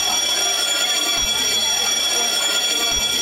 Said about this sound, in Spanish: En ese momento sonó el timbre para irnos.